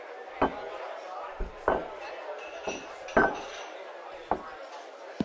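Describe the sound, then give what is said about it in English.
Plates of several ordered dishes are set down one after another at a fancy eating place, about six sharp clinks and knocks at uneven intervals, over a soft, steady background murmur. “Put in an order for several dishes I know you'll absolutely love. So go on, dig in.”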